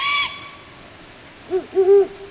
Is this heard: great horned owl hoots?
yes